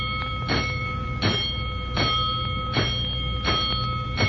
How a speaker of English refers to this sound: Seconds later, the alarm signal has been channeled to the proper stations, including the rescue company.